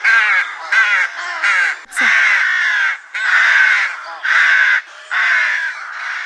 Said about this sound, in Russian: Как только они появились, глядь, а по ним уже разгуливают черные важные птицы. Это грачи, вестники весны.